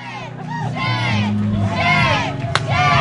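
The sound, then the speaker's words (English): Clinic defenders standing by the entrance of an abortion clinic in Wichita shout slogans such as "Abortion on demand and without apology" together, many raised voices overlapping in a loud, continuous rhythmic chant, with one sharp knock cutting through near the end. “The parade was peaceful, but it was consistently interrupted by clinic defenders who stood close to the clinic entrance and shouted their own slogans, "Abortion on demand and without apology," and "Women are the standard."”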